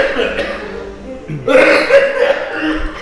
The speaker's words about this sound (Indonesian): Kayaknya saking makanan enak bapaknya batuk ya.